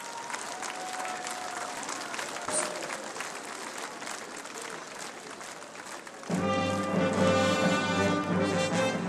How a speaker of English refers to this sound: In a change to his programme, Pope Francis made the journey to Częstochowa by car instead of by helicopter to be here, and as soon as the crowds got word that he had arrived, a great applause rang out and the choir began to sing.